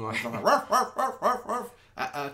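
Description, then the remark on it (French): A man's voice mimics a barking dog in a film scene, giving about five quick, evenly spaced woofs in a row, fairly loud, then a short vocal sound at the end. “c'est Robert Morin qui fait son personnage de Earl Tremblay qui va, par exemple, faire le bruit du chien qui aboie”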